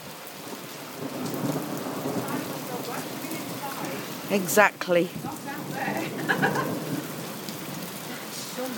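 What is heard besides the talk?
heavy rain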